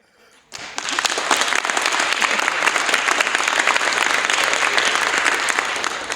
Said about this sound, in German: Ihr wisst, wann ihr klatschen müsst.